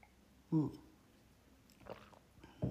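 Someone takes a sip of water: a few brief, quiet mouth and swallowing sounds separated by short pauses, with no talking.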